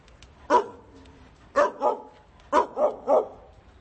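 Stray dogs in a derelict wasteland area of the Rahova district bark in short bursts: one sharp bark, then a pair, then a quick run of three, over a faint, hissy outdoor background with no one talking.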